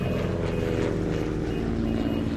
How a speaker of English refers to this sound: An airplane takeoff or two?